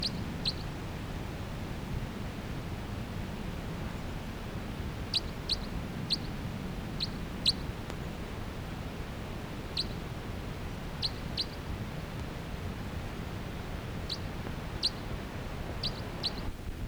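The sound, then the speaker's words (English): Brief, high chip-like flight calls from a pair of birds fluttering about the canopy of a tall ponderosa pine with many cones, at 3 p.m., come sporadically, singly and in quick doublets, against a steady low outdoor rumble with no talking. “And they're occasionally giving flight calls as they flutter about the canopy of that tree.”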